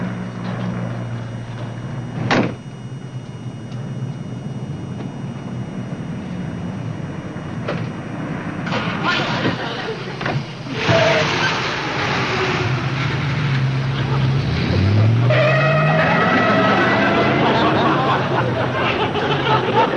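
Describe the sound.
A car engine turns over and idles, then revs with a rising whine as the vehicle pulls away and accelerates, the steady rumble filling the background under occasional faint voices.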